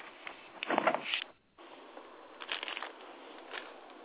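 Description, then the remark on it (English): Rain falls in a steady, hissing patter, swelling into a louder rush near the start, cutting out briefly, then continuing with scattered heavier bursts. “Hey, it's raining.”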